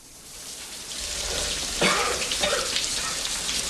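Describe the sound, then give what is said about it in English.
A shower runs as the film character Rocky Balboa stands under it with his head bowed, a steady, broad hiss of spraying water that builds slightly, broken by a couple of brief, sharper splashing bursts partway through. “Later, Rocky stands under the shower, his head bowed.”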